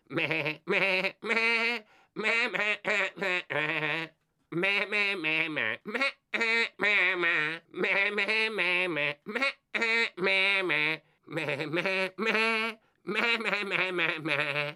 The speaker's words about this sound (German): Also macht euch ein letztes Mal nochmal bereit. Welches Lied blökt der Elvis hier?